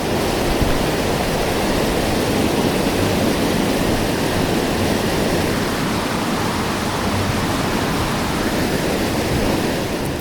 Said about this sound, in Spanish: El sonido hueco que escuchábamos era el del agua al perderse bajo la tierra. A los pocos metros, el río simplemente desaparecía.